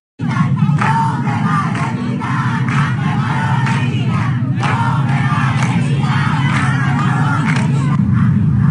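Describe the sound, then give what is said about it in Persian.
A large crowd of striking hospital staff and nurses at Khomeini Hospital chants loudly and steadily in unison, voices rising in repeated rhythmic bursts that fill the whole recording, with a dense roar of many people. “بله اعتصاب کارکنان و پرستاران بیمارستان خمینی.”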